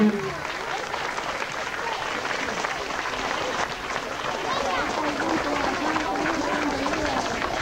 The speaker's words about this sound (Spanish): Esperamos que se acerque a nuestros micrófonos para esperarlo con su llegada. ¡Por eso, un aplauso fuerte!